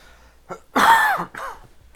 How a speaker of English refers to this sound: Cough.